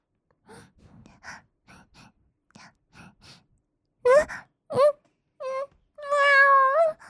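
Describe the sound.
Soft breathy gasps and sighs give way to several loud meows voiced by a person playing a cat-demon character whose body goes out of control after catnip, ending in a long, drawn-out wavering meow.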